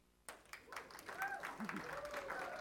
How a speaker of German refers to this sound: Schon mal ganz guter Applaus.